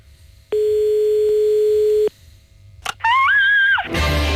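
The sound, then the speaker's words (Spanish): A single steady telephone ringback tone drones for over a second, then a click, a short warbling electronic tone and a burst of line noise as the call connects. No one speaks. “Bueno, pues venga, vamos a marcar, marca pareja. Está marcando”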